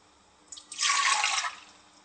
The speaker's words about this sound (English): So the first step is to add half a cup of water and 4 tablespoons of sachet A to the bowl of the mixer.